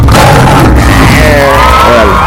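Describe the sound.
A man at the controls of a radio show imitates a lion's roar at 6 a.m. with one loud, raspy, sustained growl lasting about two seconds, its pitch wavering and rising into a strained tone toward the end.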